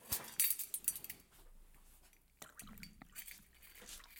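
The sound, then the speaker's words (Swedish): A little more water is topped up into a measuring cup in short, uneven splashes, with a few sharp clinks of the container at the start. There is no talking. “Nu fyller jag på lite vatten så får du säga.”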